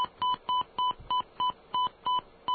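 Telephone dialing tones as a call is placed from the WUSB Stony Brook radio studio: nine short, even touch-tone beeps in a quick, steady rhythm, each a clear two-note electronic chirp, with no voices.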